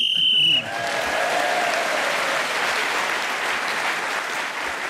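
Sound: game show whistle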